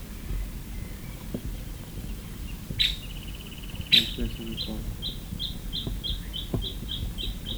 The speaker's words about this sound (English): That last one was a woodpecker, I think.